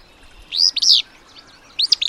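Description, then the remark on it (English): A male willow flycatcher gives its short, sneezy song twice from a dense clump of willows at the waterside, each a quick burst of buzzy, rising-and-falling notes with a pause between, clear against a quiet background. “Hear that little sneeze coming from a dense clump of willows at the waterside? That tells you there is a male willow flycatcher nearby.”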